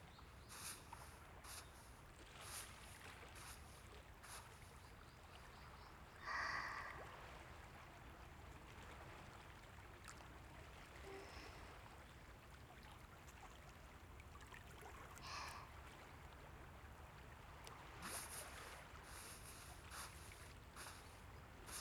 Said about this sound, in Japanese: この波の音、まるで足元まで全部が海に包まれてるよ。これほどまでに空気が、世界が 音が変わるのですわね。